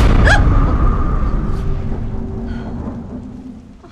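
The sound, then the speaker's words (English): Torrential heavy rain beats down at night in a dense, steady hiss, layered over a deep rolling rumble of thunder. It is loud at first, then eases slightly over the few seconds. “As the torrential rain beats down, Beth opens the glass doors and walks out onto the porch.”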